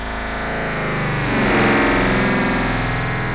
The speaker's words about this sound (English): That sounds like more like one of those cycles from Tron or something. Anyway, so that was it. That was the 64 voices, the internal default voices, I believe, on the Yamaha DX7 Mark II D.